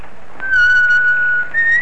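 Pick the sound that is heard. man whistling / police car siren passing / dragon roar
man whistling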